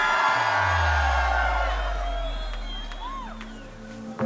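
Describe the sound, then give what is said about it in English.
A large festival crowd screams and cheers loudly in response to a call for unreleased music, a dense roar of many voices with scattered whoops rising above it, sustained for several seconds before slowly fading, with a low rumbling hum beneath. “Come on guys, if you're ready for some unreleased music, let me hear you scream!”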